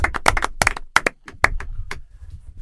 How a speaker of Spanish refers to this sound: Un aplauso, pon aquí. Pues venga, va.